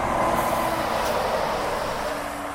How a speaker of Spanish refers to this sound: Este sonido es constante, camiones y más camiones que desde la plataforma Legutio-Bizirik Jesús Viena contabiliza. Hablamos de 5.000 vehículos diarios, de los cuales el 40% en días de labor es transporte pesado